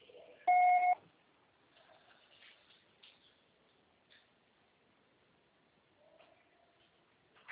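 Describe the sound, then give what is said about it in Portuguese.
A single loud telephone voicemail beep, the signal after which the message is recorded and the call is charged, a steady mid-pitched tone lasting under a second, followed by quiet line hiss with a few faint clicks and rustles. “O processo será tarifado após o sinal.”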